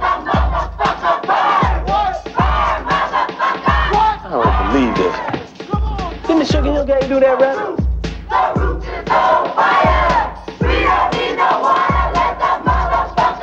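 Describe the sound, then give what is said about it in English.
A large crowd yells and chants together in loud, ragged unison, their voices rising and falling over a steady, heavy thumping beat that repeats roughly every second. “Yo, what the fuck are they yelling?”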